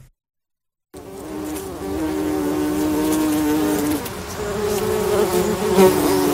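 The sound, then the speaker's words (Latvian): Bumblebees raised for pollination in a greenhouse buzz in a steady, droning hum after a second of silence, several overlapping low tones wavering in pitch, fairly loud and continuous with no voices. “Kā šādas kamenes audzē un kāda ir to dzīves siltumnīcā”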